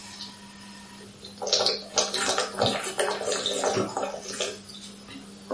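Water is poured and drunk, pouring and splashing for a few seconds, a busy gurgling stream with a steady low hum underneath, then it stops. No one speaks.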